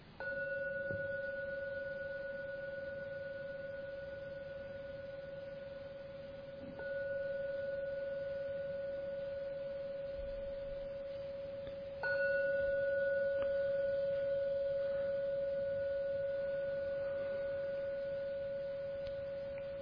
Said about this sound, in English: And now we'll ring the gong 3 times.